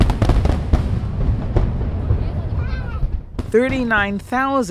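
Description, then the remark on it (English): A massive fireworks display of 39,888 fireworks in Hong Kong, held by China's government to mark the 20th anniversary of Britain's handover of the city to China, bursts in rapid, overlapping booms and crackles over a low rumble, dense and fairly loud, before fading as voices rise near the end. “China's government celebrated the event with a massive fireworks display.”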